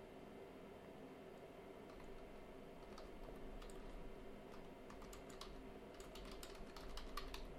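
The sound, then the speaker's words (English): Typing on a computer keyboard, with irregular clicky keystrokes that come faster and in denser bursts toward the end, over a steady low background hum. No one speaks. “You're going to hear me typing, so, yeah.”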